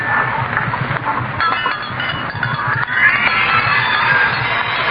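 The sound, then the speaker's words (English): Dr. Carter's dinner gong rings out as night falls, with a sustained metallic shimmer, its low hum pulsing steadily while brighter overtones swell and linger throughout, fairly loud and without any voices. “There's Dr. Carter's dinner gong.”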